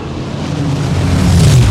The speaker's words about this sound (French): Rien que son nom, Spitfire, littéralement cracheur de feu, ça claque. Sous son capot déjà, un moteur mythique, le Rolls-Royce Merlin, un V12 de 27 litres, 1000 chevaux d'acier, d'où ce bruit mythique lui aussi.